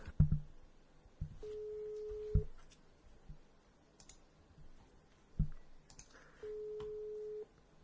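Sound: telephone busy tone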